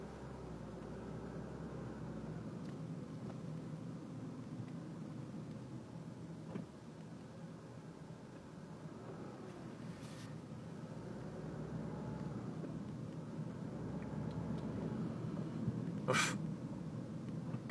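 About five cars idle in an alley, blocking it, a steady low engine rumble that fills the whole stretch, broken only by a couple of brief sharp clicks.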